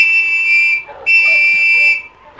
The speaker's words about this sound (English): when he heard the two blasts made by Preston's gold whistle